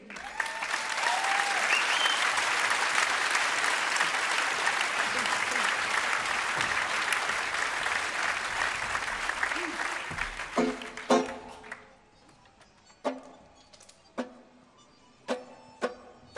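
A crowd applauds with steady, dense clapping for about eleven seconds, then it thins out to a few scattered claps and brief noises before falling quiet.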